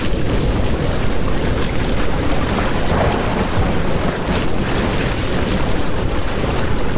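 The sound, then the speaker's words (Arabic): A loud, steady roar of a storm at sea striking a ship, with heavy wind and crashing waves filling the whole stretch without pause, dense, with no voices. “في الحال هبت عاصفة هجاء، أخذ طاقم السفينة يصرخون لآلهتهم.”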